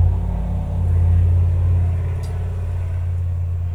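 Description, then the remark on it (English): A large truck drives past in the country, its deep low engine drone swelling and then slowly fading, with no voices present. “That was a large truck going by.”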